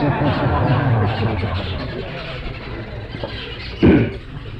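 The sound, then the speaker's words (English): Birds call steadily in a dense, chattering chorus of overlapping squeaky notes, with one brief louder burst near the end and a low murmur underneath. “I think they'll get more purified listening to these birds than me.”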